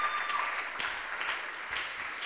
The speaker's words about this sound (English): Oh, can you clap?